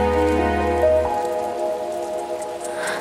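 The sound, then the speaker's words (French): Steady summer rain patters across a surface in a continuous, even hiss, moderately loud, while soft sustained tones hum underneath and fade after the first second. No voices. “C'est la pluie d'été.”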